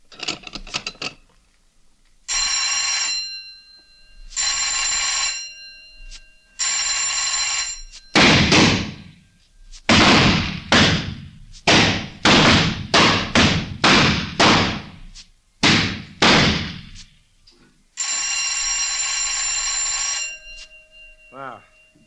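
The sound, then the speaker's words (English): On a shooting range during the first half of a rapid-fire stage, several separate ringing bell tones sound, each a steady bright pitch; shooters fire on the third bell in a rapid volley of about ten loud, sharp gunshots, then one more sustained bell ring at the end. “First half of rapid fire. Load and lock. Fire on third bell.”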